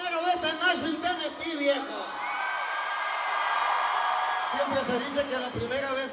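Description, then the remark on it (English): A huge crowd of thousands roars and cheers while braving a torrential rainstorm in Nashville, Tennessee, many voices whooping and shouting together, swelling into a sustained wash of noise midway before individual yells rise out of it again. “But here he is, standing in front of a roaring crowd of thousands of Latinos braving a torrential rainstorm in the capital of country music, Nashville, Tennessee.”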